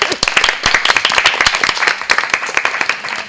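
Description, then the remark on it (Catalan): The fifth-grade class of Escola La Immaculada applauding together after making a radio programme, dense overlapping claps in a steady, lively burst with no voices standing out. “Jo crec que us heu guanyat un aplaudiment, eh? Ves què et dic. Aplaudim? Us aplaudim?”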